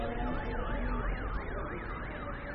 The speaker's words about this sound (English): One of the cars is making this ambulance noise that you can hear.